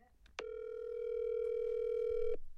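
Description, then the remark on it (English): A single steady ringback tone from an outgoing phone call, one unbroken burst lasting about two seconds, clear and fairly loud with no talking over it. “We're going to give Ella Draper a call on your phone because she'll probably recognise my number.”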